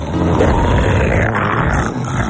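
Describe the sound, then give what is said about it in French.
A loud, rasping snore rumbles nonstop for a couple of seconds, harsh like a roar, with no talking over it. “Bah, mais bordel de Tyrol, il s'est remis à ronfler!”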